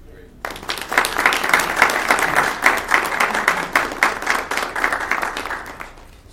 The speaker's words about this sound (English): I think a round of applause would be